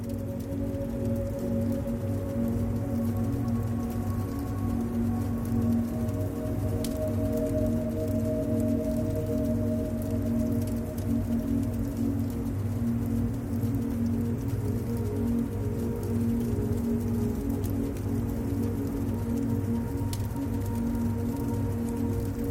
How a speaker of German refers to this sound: Du kannst die beruhigenden Klänge der Flammen hören und das angenehme Knistern des brennenden Holzes.